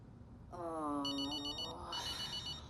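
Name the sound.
telephone ringing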